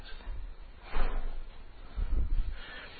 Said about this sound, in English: Can we close the door, please?